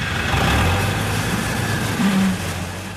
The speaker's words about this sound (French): Cet employé municipal s'évertue à maintenir la plage propre avec son tracteur.